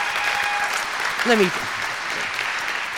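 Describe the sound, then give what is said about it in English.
An audience applauds steadily throughout, a dense, even wash of clapping, with a brief rising vocal cheer or whoop breaking through about midway. “Thank you so much for clapping stuff.”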